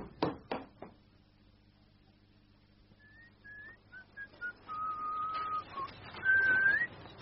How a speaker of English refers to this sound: Whistling away without a care in the world, now he's got away from the wife and home, and his betting debts.